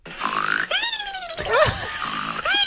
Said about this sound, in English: What is the snore? What? It's from cartoons. Yeah. What do you think? Who do you think that snore was based on?